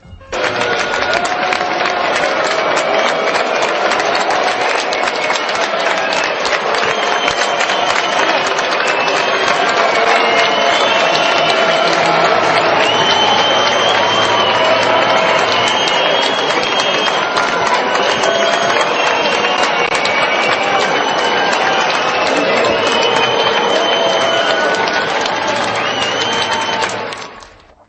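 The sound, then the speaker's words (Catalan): A large audience at the Gran Teatre del Liceu erupts in a sustained, loud mix of shrill whistling, jeering shouts and steady clapping as Spanish princes Felipe de Borbón and Letizia arrive for the opera L'Elisir d'Amore, the dense crowd noise holding at full intensity before cutting off abruptly. “Al vespre el Gran Teatre del Liceu demostra aquest vídeo, tot i que també se senten bastants aplaudiments, i van anar a veure l'òpera L'Elixir d'Amore”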